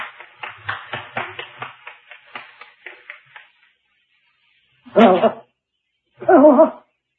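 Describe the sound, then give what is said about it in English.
One man applauding, about a dozen sharp claps in a quick, steady rhythm that gradually grows fainter and stops, followed after a pause by two short voiced sounds. “He's applauding.”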